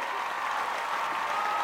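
Steady crowd applause, a dense patter of many hands clapping at once, holding an even, fairly loud level throughout with no voices standing out.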